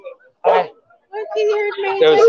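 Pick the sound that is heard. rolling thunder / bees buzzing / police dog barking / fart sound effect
police dog barking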